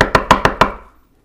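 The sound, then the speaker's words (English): Five quick, evenly spaced knocks on a door, sharp and fairly loud, with a short ringing decay after the last one and no voices. “And knocking is merely with somebody standing at the door knocking.”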